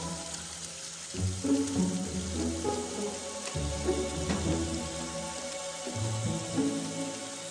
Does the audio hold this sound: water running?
yes